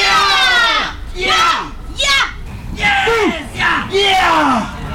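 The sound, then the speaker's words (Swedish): A man yells loudly in a series of strained, drawn-out shouts with rising and falling pitch, harsh, with brief pauses between bursts. “Det känns som att någonting i mig, inuti min kropp, går sönder varje gång jag hör honom skrika precis.”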